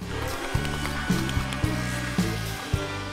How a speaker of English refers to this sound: She closes her eyes against the hairdryer, then she's just a face in the middle of a ball of fuzz.